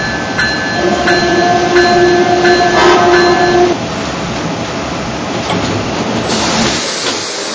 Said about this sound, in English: Now arriving from Washington on track number 2. Amtrak train number 1E.